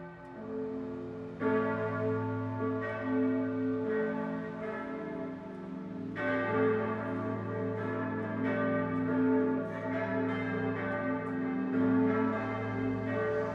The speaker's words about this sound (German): Und nun läuten Glocken die Weihnacht ein.